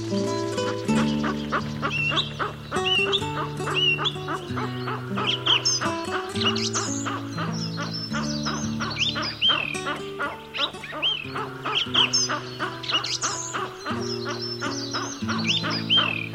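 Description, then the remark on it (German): A western capercaillie calls in a rapid, steady run of dry clicks and knocking pops mixed with short chirping notes, loud, over a low sustained tonal hum. “Das war das Auerhuhn.”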